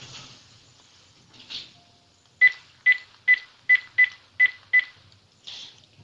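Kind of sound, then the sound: signal or alarm, telephone dialing tones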